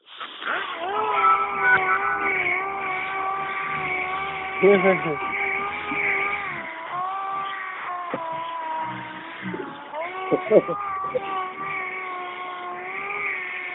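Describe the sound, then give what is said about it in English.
A voice imitates the robot droid R2-D2, making a long, steady, buzzy electronic warble that bends and slides in pitch, with a few brief sputtering bursts along the way. It is fairly loud. “R2D2. It's R2D2.”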